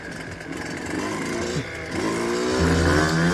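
A loud motorcycle engine runs, its pitch climbing as the throttle is opened and revved higher toward the end, with no voices present.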